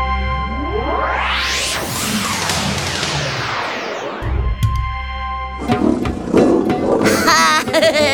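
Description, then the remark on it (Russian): A lion roars in a series of loud, rough bursts near the end, following a long sweeping whoosh and a low rumble, with no voices. “Алтай, покажи нам, что стало со львом.”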